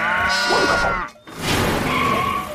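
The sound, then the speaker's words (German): Two loud, wavering bleats from a farm sheep in a Paw Patrol story, as sheep and pigs run up a ramp into the Paw Patroller, each bleat lasting close to a second with a brief pause between them, no talking. “Kulinda, Rüsselchen und all die anderen Schafe und Schweine liefen über die Rampe ins Innere der rollenden Einsatzzentrale.”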